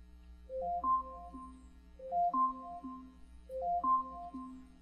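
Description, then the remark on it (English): An Amazon Alexa smart speaker alarm, set for 8:49 in the morning, rings: a short rising run of bright electronic chime tones repeated three times in an even loop, with a low hum underneath and no talking. “Alarm set for 8:49 this morning.”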